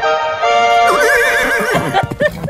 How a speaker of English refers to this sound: Sounds like a gallant horse to me.